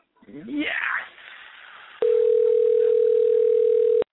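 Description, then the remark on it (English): A brief voice sound comes first, then a loud, steady telephone dial tone of an outgoing call starts abruptly and holds unbroken for about two seconds before cutting off. “We're calling somebody.”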